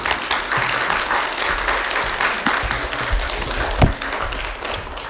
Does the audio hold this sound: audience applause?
yes